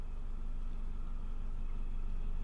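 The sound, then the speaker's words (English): A small boat's engine hums steadily with a low, throbbing drone as the boat goes past, even in loudness throughout, with no voices over it. “Oh, look, a little boat going past.”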